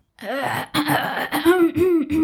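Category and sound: human body sound, loud throat clearing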